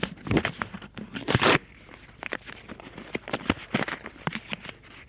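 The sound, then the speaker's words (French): A quick rip of a sheet being torn from a notebook, with crisp crackling bursts and a longer tear near the start, followed by lighter rustling and small handling noises. “Déchire une feuille de son carnet.”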